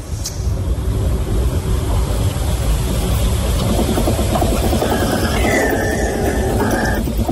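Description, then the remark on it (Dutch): A car engine runs loudly and steadily with a deep, rough rumble, and a high-pitched whine from under the hood rises over it in the last couple of seconds. “Nou, bedoel, dat geluid, dat gierende geluid... wat dan onder de motorkap vandaan komt, klinkt zo.”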